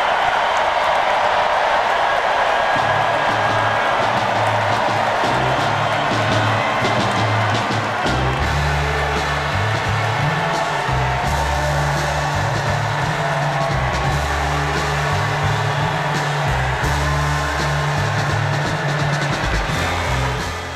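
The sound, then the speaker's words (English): A large indoor crowd at the DNC at the United Center roars with sustained cheering and applause after a speech, loud and continuous throughout, with a steady low rhythmic thumping like music or stomping underneath. “And the crowd enthused. This raucous crowd at the DNC, at the United Center.”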